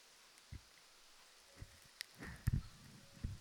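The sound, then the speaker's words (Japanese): Light rain, heard as sparse raindrops tapping and spattering on a surface at irregular intervals, quiet, with a soft hiss of background beneath and no voices. “似合いますよね、雨音と木琴って。”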